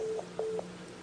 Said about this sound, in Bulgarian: Аз ще ви избера от моя телефон.